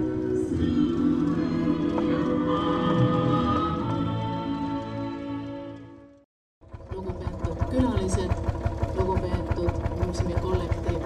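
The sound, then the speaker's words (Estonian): A Lanz Bulldog tractor engine runs loud with a rapid, steady chugging thump as the tractor arrives in the arena at an outdoor festival at the Estonian Agricultural Museum in fine weather. It cuts out briefly midway, then restarts with even, regular pulses. “Vahepeal on siia areenile jõudnud traktor Lants Buldog”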